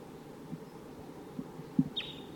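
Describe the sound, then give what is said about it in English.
A wild bird gives one thin, high call near the end, held briefly and fairly faint, over a low outdoor rumble with a few soft thumps. “Wild bird.”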